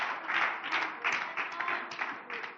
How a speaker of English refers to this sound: Come on, let's clap our hands to the Lord for good today.